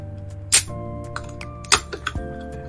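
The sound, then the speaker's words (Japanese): A glass of sparkling water being handled before a sip is taken from it: two sharp clinks and a few lighter taps against a soft background hum, with no one speaking. “はい、これ炭酸水です。ちょっと飲みますね。”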